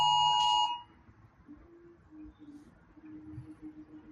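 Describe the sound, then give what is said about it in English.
A home alarm system gives one loud, piercing electronic beep lasting under a second, then falls quiet apart from faint, intermittent low tones in the background. “I have an alarm system coming in.”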